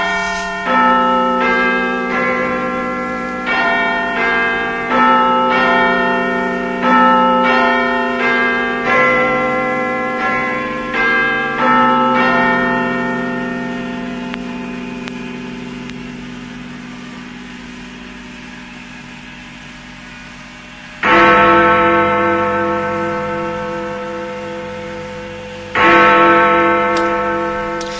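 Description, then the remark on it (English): Loud clock chimes broadcast on Radio 1 to mark the end of 1981 and the start of 1982 ring out a stately melodic sequence of bell notes, fade into a long ringing decay, then two deep, heavy hour strokes begin tolling a few seconds apart. “And in just 5 seconds' time, we shall have the chimes to herald out the old year and see in the new.”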